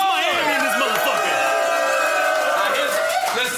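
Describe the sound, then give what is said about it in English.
A dense, loud crowd roars continuously, many voices overlapping in shouts and cheers that swell and waver throughout without a break. “The crowd. Yeah, they lame.”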